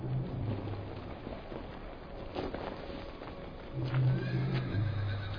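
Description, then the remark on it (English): Horses whinny and neigh at the start of a horse race across the Rub al Khali, amid a busy outdoor clatter, with a steady rain-like hiss underneath and scattered hoof sounds; the loudest neighs come near the start and again toward the end. “The Wali say, strength to your horses, and may God have mercy on your souls.”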